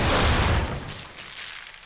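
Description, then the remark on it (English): A single loud explosion bursts out at once, a broad rumbling blast that rolls off over about a second into a fainter lingering rumble, with no voices. “That was an explosion.”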